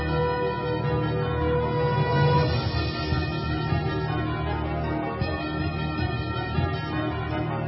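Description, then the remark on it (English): A short, bright musical jingle introduces a weekly segment, with chiming bell-like tones over a full, steady backing, loud throughout, with no one talking. “Maestro, cue up the music. Ah, there it is.”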